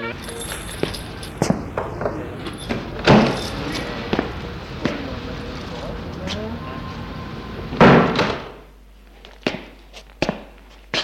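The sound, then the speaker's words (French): Keys jangle and a lock clicks several times as a man unlocks the door of his home, a small, old one-storey house, before the door is pushed open, with two heavier thumps standing out over a steady low background murmur. “Il ouvre la porte de son appartement.”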